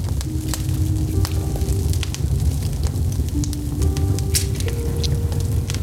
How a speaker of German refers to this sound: Ich kniete mich runter zum Feuer und blickte hinein.